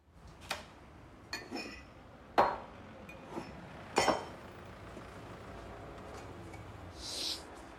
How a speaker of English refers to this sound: He switches on the kettle and grabs two mugs from a cabinet on the wall, then throws in some tea bags.